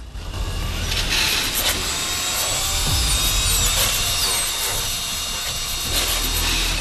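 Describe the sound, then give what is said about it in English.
A surgical drill bores a fourth hole into a skull, its high, whining grind loud, running continuously for about seven seconds with slight surges in pitch and no voices. “drills a fourth hole.”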